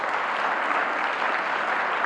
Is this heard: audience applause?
yes